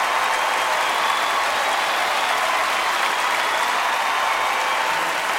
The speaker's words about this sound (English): Applauds with a big smile.